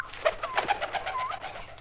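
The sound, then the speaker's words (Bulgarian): A parrot flying in and returning gives a quick run of chirping, squawky calls, several short bursts close together, moderately loud, with no one speaking. “Ето го! Лети насам, връща се. О, милото ми папагалче, ела!”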